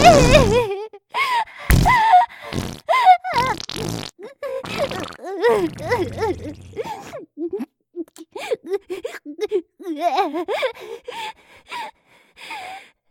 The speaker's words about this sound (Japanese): しちゃった。おならいっぱい。